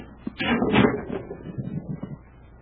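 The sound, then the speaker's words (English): A concealed door in a sub-basement scrapes open with a brief, fairly loud grinding slide, then a lower rumble trails off as it settles; no one speaks. “There's a concealed door here.”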